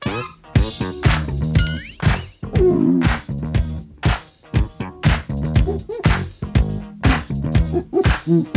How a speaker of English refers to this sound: featured a trebly sound, enhanced by slapping the strings, which created a popping sound